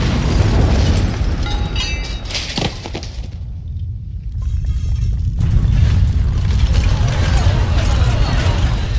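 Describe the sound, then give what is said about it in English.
A massive factory explosion blast roars with a deep, sustained rumble that fills the whole stretch, loud, briefly dulling midway before the heavy roar swells again. “Surviving villagers stream into open areas, fearful of another explosion.”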